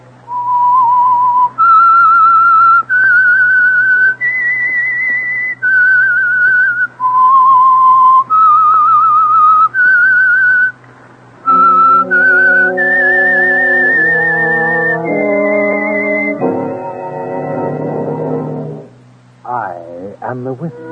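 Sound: whistled theme melody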